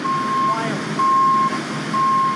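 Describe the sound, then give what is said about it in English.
A garbage truck reversing at a waste management recycling facility in Sun Valley sounds three steady, mid-pitched beeps, roughly one per second, over a constant rumble of engine and yard noise. “The trucks that drive through your neighborhood and pick up everything in those blue bins drop it all off at facilities like this one.”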